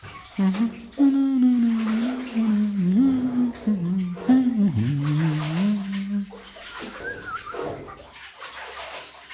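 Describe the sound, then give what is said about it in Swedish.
Bath water sloshes and splashes in irregular bursts as someone is bathed with fragrant rose-petal soap, with a low voice humming or vocalizing wordlessly over most of it before the water continues on its own. “Och sen, sa syster Lissi, blir man badad så att man luktar gott.”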